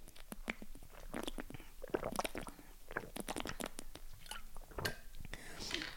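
Someone quietly sips water, a run of small wet mouth clicks, slurps and swallows scattered irregularly over several seconds, with soft breaths between them and no words spoken.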